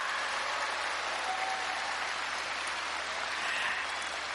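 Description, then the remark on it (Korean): A large crowd claps steadily and continuously in encouragement for the choirs waiting backstage, a dense wash of applause that holds at an even level throughout without pauses, with no voices standing out. “네, 그래서 저희가 응원의 박수를 한번 보내보도록 하겠습니다. 네, 큰 박수 부탁드립니다.”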